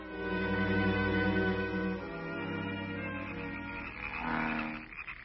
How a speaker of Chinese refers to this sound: 哎呦，这些青蛙真闹得我神经错乱了。哎呦， 这也太不像话了。